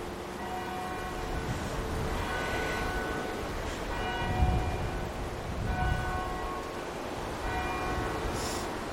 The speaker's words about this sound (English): Now, it is very chilly and I am wrapped up, but because I'm recording, and I believe that's the bells from Glasgow University.